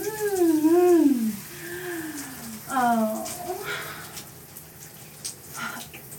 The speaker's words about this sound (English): Was it because you know what a hot shower does to me? The feeling of the water just raining down, hitting my skin.